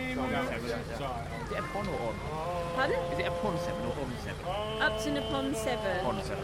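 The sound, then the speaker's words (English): A boat's engine drones steadily as the boat travels upstream on a river towards Upton, its low hum running continuously beneath several people talking. “So, dearest audio view, we're sitting on a boat at the moment, so we get to the Conway Castle, obviously.”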